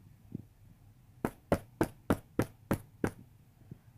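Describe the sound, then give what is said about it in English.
Seven sharp knocks on a wooden door, the second door on the left off the open hallway of Mrs. DuBose's house, land in a quick, steady rhythm, fairly loud against a quiet background with no talking. “Jem, armed with Ivanhoe and full of superior knowledge, knocked at the second door on the left.”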